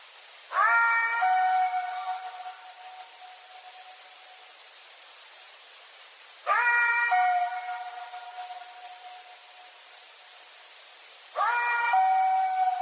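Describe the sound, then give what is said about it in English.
An eerie, unexplained howl known as the Colorado Howl, captured on one of four or five recorders scattered around the area, rises three times, about five seconds apart. Each call starts abruptly, holds a wavering harmonic tone, then slowly fades, with no voices around it. “about how far in do we hear the Colorado Howl?”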